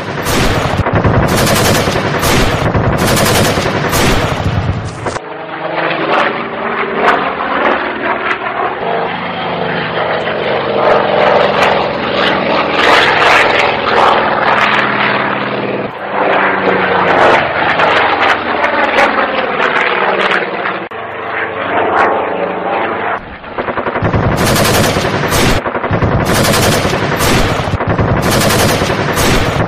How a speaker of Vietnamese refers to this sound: Là một vòng tròn 360 độ trên cao độ 2.000 bộ. Đạn từ những khẩu đại liên 6 nòng và đại bác 20 ly trên thân tàu nhả xuống. Gầm xuống chẳng khác gì một con rồng đang phun lửa, làm sáng rực cả một vùng dưới đất.